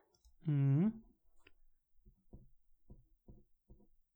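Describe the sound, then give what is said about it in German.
A brief voice sounds first, then several faint, short scratchy strokes of a pen writing the word Stuttgart on a slip of paper follow at an irregular pace, quiet. “Okay, jetzt schreib bitte das Wort Stuttgart.”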